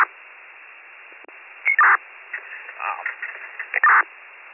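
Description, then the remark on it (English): A police radio dispatch transmission of a Pennsylvania plate lookup for county unit 7621: band-limited, crackly voice chatter over steady static hiss, with short squelch bursts and a couple of louder clipped chirps. “County 76, 21, Pennsylvania lookup. 7621, go ahead.”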